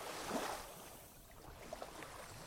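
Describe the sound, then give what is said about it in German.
A soft, continuous wash of ocean waves with a gentle swell early on, steady and fairly quiet, heard on its own with no voices. “Das Meer rauscht im immerwährenden Wellengang und tönt beruhigend in deinen Ohren wie alle Rhythmen des ewigen Lebens.”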